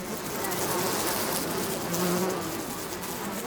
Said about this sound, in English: Aw, the bee came back to your mom's flower bouquet. Guess it needs to keep pollinating and make more plants and flowers to grow in the world.